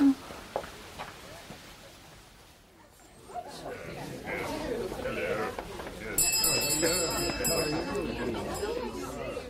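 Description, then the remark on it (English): A bright, high bell jangles repeatedly as it is pulled over and over by arriving visitors through the last few seconds, cutting over a growing murmur of many people chatting and milling about. “Soon there were repeated pulls at the bell and arrivals too numerous to particularise.”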